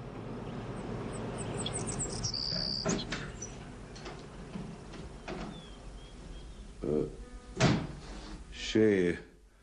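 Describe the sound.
A door is opened with a brief high creak followed by several sharp knocks and thuds of the latch and frame, set against a busy background with voices and a faint bird chirp.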